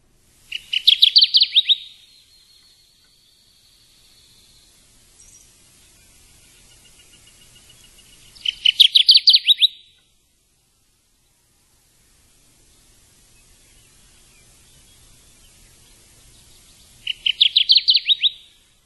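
kirtland's warbler song

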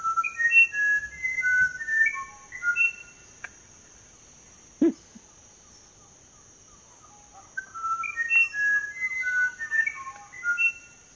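musician wren song

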